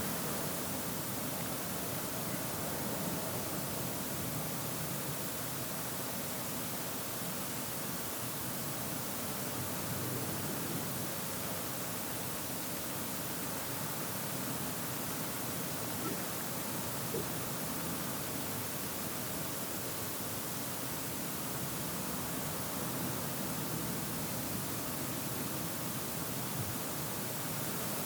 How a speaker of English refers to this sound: As we hear the sound of traffic rushing outside, but also the sound of birdsong, we pray, God, that we don't rush from this moment.